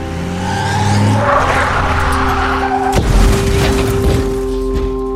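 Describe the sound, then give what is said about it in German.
An SUV's tires squeal in a sustained, tonal skid, then a sharp loud bang as a tire bursts, drowning out a pistol shot, followed by continued rough skidding and road noise as the SUV crashes into a restaurant wall. No voices. “Der Knall des Reifens übertönte den Schuss meiner Pistole. Der SUV krachte gegen die Wand des Restaurants.”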